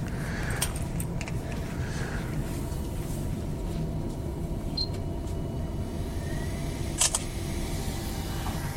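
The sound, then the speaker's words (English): A printer runs with a steady, dense low mechanical hum throughout, broken by a few sharp clicks near the start and one louder click toward the end. It is printing a Kindle Paperwhite job. “The microphone will probably pick up the sound of the printer now.”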